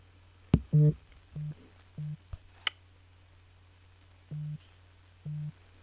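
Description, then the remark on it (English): Short buzzing vibration pulses from a phone with VoiceOver speech turned off, about six in all, each a brief low hum lasting a fraction of a second, spaced irregularly with a few faint clicks between them; moderately loud, no talking. “Now let me flick down with one finger so we don't get the speech talking over the vibration.”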